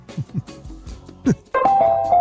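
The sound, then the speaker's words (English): A bright LG washing machine end-of-cycle jingle plays loudly as a steady run of beeping melodic tones, following a few seconds of brief, scattered talk. “That's the LG sound.”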